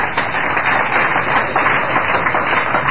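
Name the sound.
audience applause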